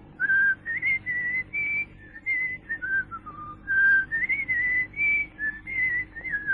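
A person whistles a melodic series of short, clear notes to call friends, rising and falling in pitch, fairly loud, with brief pauses between phrases and no talking.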